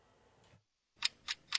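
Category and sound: household object, clock ticking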